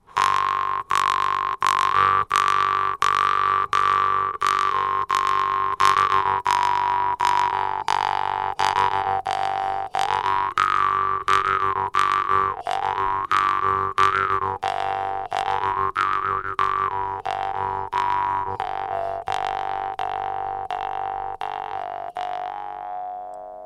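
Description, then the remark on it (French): A large metal jaw harp with a particularly deep sound, plucked in a steady, even beat while the player's back-and-forth breathing creates rhythm within the base beat; its twangy, buzzing drone swells and wah-ings in rhythmic waves, with no one speaking. “Celle-là a quand même vraiment un son particulièrement grave.”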